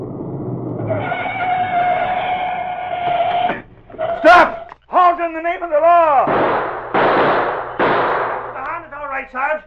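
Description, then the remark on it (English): A loud, sharp burst of gunfire cracks out midway, brief, surrounded by a sustained blaring tone beforehand and rising, wavering wails afterward. “Who did all the shooting?”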